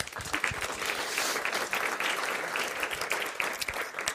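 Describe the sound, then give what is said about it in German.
Steady audience applause, a dense wash of many hands clapping at a fairly even level for about four seconds, with no voices standing out. “Also wir sind doppelt vertreten. Applaus.”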